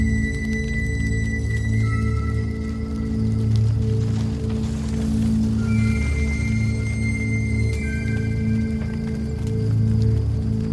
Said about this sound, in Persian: سیاوش مشعل رو روی سقف کلبه میندازه. کلبه آتیش میگیره و سیاوش به کلبه نگاه میکنه.